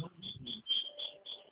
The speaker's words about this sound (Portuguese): Isso é barulho do grilo?